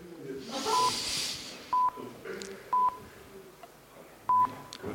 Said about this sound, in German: Ich höre irgendwelche Piepsgeräusche. Das ist wahrscheinlich der Countdown, der runterzählt.